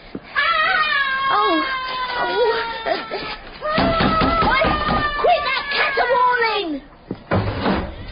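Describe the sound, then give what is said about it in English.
A human voice caterwauling in long, wavering, cat-like wails that slide up and down in pitch, two sustained stretches broken by a short pause, with a brief knock near the end. “I caterwaul because I can feel myself teetering on the edge of the grave.”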